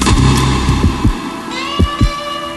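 A heartbeat sound effect depicting a heart beating out of rhythm: low, thudding beats falling at uneven intervals, some bunched together and others separated by pauses, over a steady electronic hum, with no voices.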